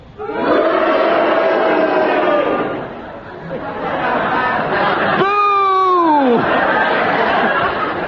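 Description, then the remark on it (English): A studio audience boos and cheers together in a loud, sustained roar of many voices that dips briefly, then swells again, with one long wavering cry rising above the crowd near the end. “would you cheer? And will you all do it together now?”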